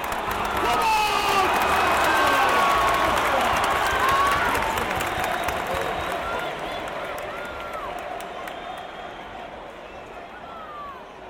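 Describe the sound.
A large football crowd roars continuously, a dense wash of shouting, chanting, singing, cheering and clapping with scattered whistles and rising voices, loud throughout and easing slightly toward the end.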